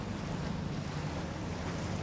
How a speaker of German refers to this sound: Die Chance für mich und mein Mikrofon, ein paar Feinheiten zu erhaschen. Wie das Glucksen des Wassers an der Kaimauer. Allerdings fehlen Wind und Wellen für ein wenig Dramatik.